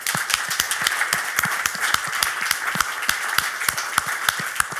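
Steady audience applause from many hands, a dense continuous patter of sharp claps with a few louder individual claps standing out, sustained at an even level throughout.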